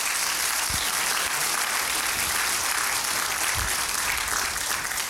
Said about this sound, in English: Come on, clap your hands and give God the glory.